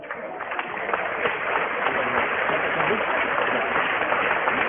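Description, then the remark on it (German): Steady applause from a stadium crowd at a football match as an injured player with a head injury is led off the pitch, a dense, continuous patter of many hands clapping at an even level, with a murmur of voices mixed into the noise. “Kommt hier zurecht den Applaus.”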